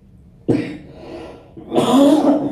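cough

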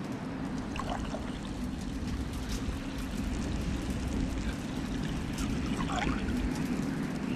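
water being poured

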